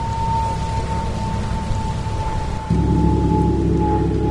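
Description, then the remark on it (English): A gong played by Tampa percussionist Sean Hamilton crescendos: a dense, rumbling wash with a steady ringing tone running through it, swelling abruptly louder about two-thirds of the way in and holding there, with no voices. “The gong crescendos.”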